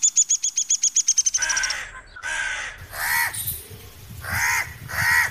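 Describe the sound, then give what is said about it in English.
A rapid run of sharp, high clicking notes gives way to several harsh, rasping crow-like caws, loud, as a lyrebird mimics a crow's call with no talking. “You're right that number two is a crow, but actually it's a crow being imitated by an incredible bird called a lyrebird, who can imitate”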